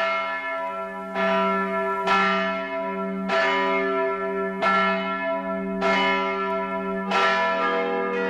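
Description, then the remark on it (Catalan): A church bell tolls the call to mass in a steady, repeated pattern, each strike ringing out loudly with long, overlapping resonant hum between hits, about six strokes with no voices present. “Correcte, és la crida a missa.”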